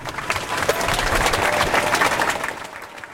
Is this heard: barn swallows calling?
no